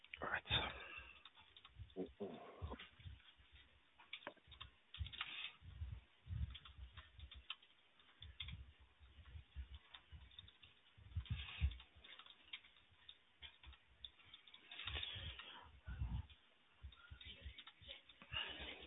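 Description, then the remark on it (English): Rapid, irregular clicking of keys being typed on a computer keyboard, heard through a narrow, phone-like line, with bursts and short pauses and a faint indistinct voice now and then, as an interviewer types notes during a call. “Do apologize if there's any silence during the call. It's just me typing in the notes, making sure I get everything.”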